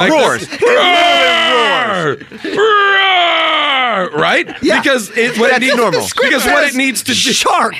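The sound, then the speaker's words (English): A monstrous movie-style scream of pain from a shark poking its head out of the water, irritated by a strobe light: two long, loud, drawn-out howls sliding downward in pitch, followed by a rapid run of choppy, strained wails and groans, all intense. “And the shark, meanwhile, the shark does what every underwater animal does when it's in pain. It pokes its head out of the water and screams out in pain.”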